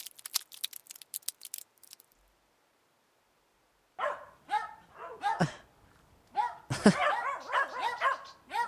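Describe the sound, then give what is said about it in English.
Several dogs, everyone's dogs including one named Rambo, bark in an overlapping, excited chorus that starts abruptly after a brief pause, loud, following a short run of sharp clicking sounds at the very beginning. “That's everyone's dog.”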